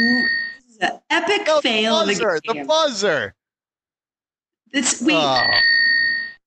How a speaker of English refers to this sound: No, that's the buzzer. She got it wrong.